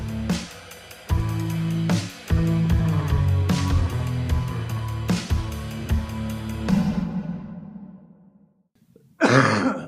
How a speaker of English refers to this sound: I am dying. You're not going to open with a cough, right? Okay, keep the cough in. I kind of explained this at the beginning, but I inhaled some insulation in my lungs, and I'm not sick